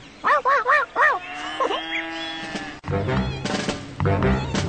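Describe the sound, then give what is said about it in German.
Three quick, high-pitched yaps from a farmer's small dog ring out in a rapid burst, followed by drawn-out tonal sounds and denser, busier noise. “Aber diese Töne verscheucht sie mit ihrem Gekläffe.”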